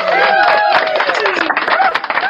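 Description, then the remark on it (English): A short burst of canned applause and cheering played from an applause button: dense, steady clapping mixed with whooping crowd voices, loud, lasting a couple of seconds. “Hold on, I think I have an applause button on here somewhere.”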